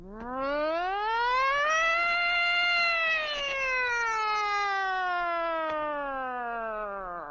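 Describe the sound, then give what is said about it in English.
A single long wailing siren tone climbs in pitch, holds, then slowly sinks over several seconds, loud and clear with no talking. “She's a siren, all right.”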